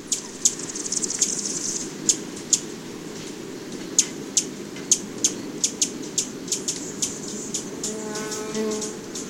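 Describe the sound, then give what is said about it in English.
Sharp, high-pitched chips ring out repeatedly over a low, steady outdoor hum: many small hummingbirds calling while roosting in a eucalyptus grove, with a brief harmonic buzz near the end. “Producer Mark Seth Lender recorded these lightweight hummers roosting in a eucalyptus grove.”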